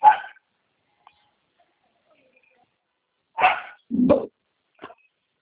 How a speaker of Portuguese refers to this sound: Só um momentinho. Esse cachorro cala a boca ali.